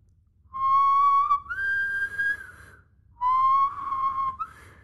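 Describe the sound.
A man whistles a short, wavering tune in two phrases separated by a brief pause, fairly loud, with no talking over it.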